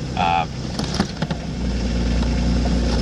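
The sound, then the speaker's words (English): A car engine idles with a steady low rumble inside the cabin in the morning while a person records in the car, opening with a short electronic beep and a few soft clicks before the hum settles and holds. “I'm here in the car recording another Ennoyage set.”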